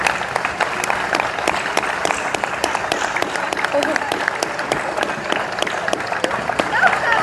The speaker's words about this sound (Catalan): Per favor, un fort aplaudiment per al patronat.